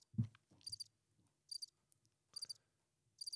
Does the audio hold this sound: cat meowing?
no